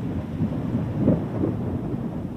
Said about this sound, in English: The rain's really coming down now.